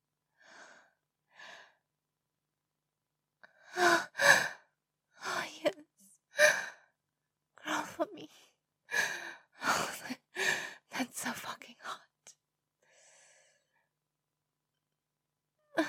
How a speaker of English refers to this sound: You're sniffing me. Am I smelling bad? I'm smelling good.